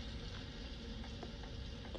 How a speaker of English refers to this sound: The rain is very loud.